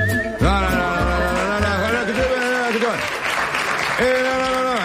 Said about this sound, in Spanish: Entiendo el aplauso porque soy un ídolo